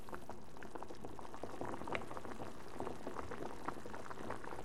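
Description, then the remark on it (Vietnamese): Milk bubbling at a steady boil on a stove, a dense stream of soft pops and gurgles with occasional brighter bursts, continuous and fairly even in loudness throughout, with no voices. “Anh đun sôi sữa trên bếp, bỏ kẹo vào và đưa cho bọn trẻ.”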